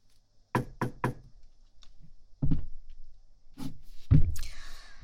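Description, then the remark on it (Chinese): Three quick, sharp knocks on a door, then a few duller thuds, ending in a louder clunk and a lingering scrape like a door swinging open. No one speaks. “呀，终于肯开门了，让我先进去。”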